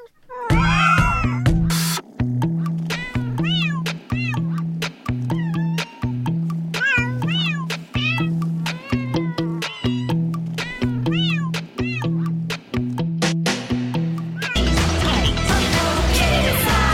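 A cat meows over and over in quick, rising and falling cries, set against a steady, throbbing low musical backing that ends in a loud, noisy burst.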